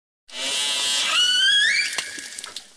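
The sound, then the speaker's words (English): An orca call type N47, used almost exclusively by the A30 matriline: a buzzy, harmonic-rich pulsed call that glides sharply upward in pitch, then breaks into a scatter of short clicks as it fades. No one speaks. “Here's an example of orca call type N47, used almost exclusively by the A30 matriline.”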